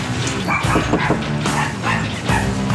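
A dog inside a house barks repeatedly in quick, excited bursts, sounding somewhat muffled as if behind a closed door, as someone knocks on the door, with no one speaking.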